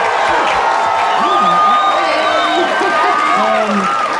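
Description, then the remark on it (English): A crowd applauds and cheers loudly and steadily, with overlapping voices and rising whoops mixed into a continuous wash of noise. “Round of applause.”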